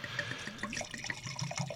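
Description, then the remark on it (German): Red wine pours steadily into a glass, a continuous gurgling splash with small bubbling glugs and rising tones as the glass fills, no voices. “Gieß mal ein.”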